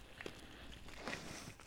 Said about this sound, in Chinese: 门卫刚才好像有脚步声呢，好像还有警车经过的样子。